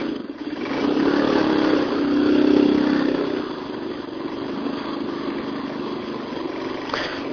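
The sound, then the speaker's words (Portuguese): A motorcycle engine idles with a steady rumble, swelling briefly into a rev before settling back to a constant drone. It is fairly loud, with no voices. “E conversar, né? Com o bando de moto.”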